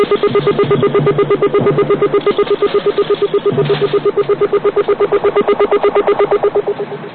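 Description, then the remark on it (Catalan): A bionic eye sound effect from a TV show plays over a close-up of the heroine's eye as she uses her powers to see something far away. A rapid, steady electronic pulsing is layered over sustained mid-pitched tones. It runs unbroken for about seven seconds at an even, moderately loud level, with no talking. “Llavors feien un primer pla de l'ull i sonava aquest so.”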